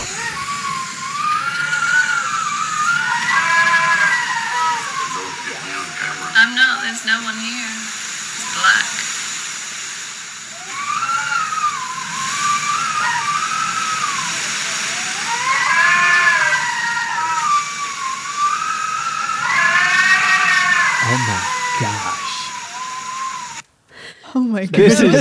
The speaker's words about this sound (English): But before it got real bad, I recorded some of the wind. I don't even know if you hear it over here, but...